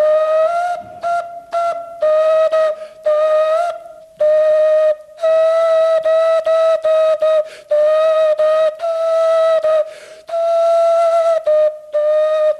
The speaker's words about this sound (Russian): Эти свистульки сделаны из кокосовых орехов. Всего-то два отверстия.